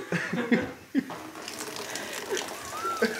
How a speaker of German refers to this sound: direkt unter den Wasserhahn, so dass der Griff zu mir zeigt, also auch in Richtung Eimer und hoffe dann, dass also über diese Schaufel, über den Griff hinüber das Wasser in den Eimer läuft. Los geht's. Läuft.